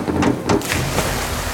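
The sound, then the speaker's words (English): A group of people clapping in a steady, dense patter of applause, with a few sharper claps standing out early on. No voices are heard. “Everyone's clapping.”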